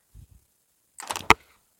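A door swings shut: two soft low thuds, then a brief scraping rattle ending in a single sharp, loud slam that cuts off quickly. No one speaks.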